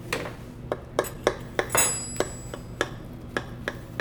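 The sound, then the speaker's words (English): A utensil cuts into a crusty, brown baked dish, giving a series of sharp, irregular crunches and clicks, one with a brief bright metallic ring against the dish, with no talking. “It's got a little bit of that good squish. A little squish, and you can still hear like a little bit of crunch.”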